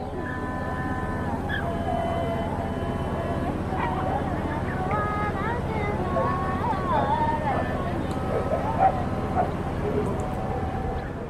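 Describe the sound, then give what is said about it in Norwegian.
Nuns chant a mass in a steady, droning unison that fills the whole recording, while a few dogs bark sporadically, faint under the voices and a light rush of wind. “Det så flott å være der, sånn å høre da hvordan disse nonne, messer og hunde gævler. Vi kan faktisk høre på lite klipp her som jeg har fra akkurat det.”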